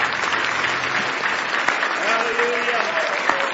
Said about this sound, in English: Give the Lord a big hand clap of praise tonight.